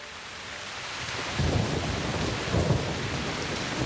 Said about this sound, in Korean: 억수같이 내리는 비를 아랑곳 타지 않고 현정화 선수가 나섰습니다.